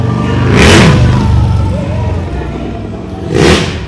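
A motorcycle engine revs up loudly twice, with a steady low rumble between the two throttle bursts and a rough, roaring edge on each rev.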